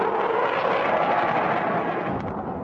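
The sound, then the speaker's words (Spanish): A steady, loud jet roar of a Czech L-159 combat aircraft passing during military exercises, a dense rushing whoosh that holds level and begins to fade at the very end, with no voices. “Durante los ejercicios, los daneses orientan al blanco también los aviones checos de combate Alka-L-159, que hasta el momento no han intervenido en ninguna misión extranjera de la OTAN.”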